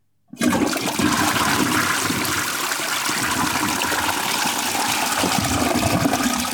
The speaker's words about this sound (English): Well, let's get a massive toilet flush sound effect to cap it off, because that's actually all I have to talk about.